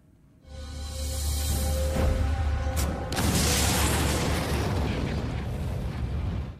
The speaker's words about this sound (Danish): Ja, en eksplosion hørte vi her. Det er attentatet på Adolf Hitler 20. juli 1944